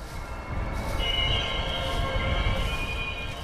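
An orange BNSF freight train engine rumbles past a little more than 1,000 yards away, by a marsh between the Columbia River and the tracks across the river from Portland, its wheels letting out a steady, high-pitched metallic squeal that starts about a second in and holds over the low, continuous rolling noise.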